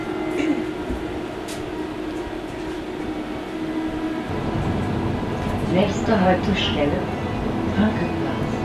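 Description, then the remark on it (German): A tram in Halle rolls along its rails with a steady low rumble and clatter, growing louder partway through as high wheel squeals cut in, while indistinct voices murmur underneath. “We wish you an enjoyable ride on our tram and unforgettable days in Halle.”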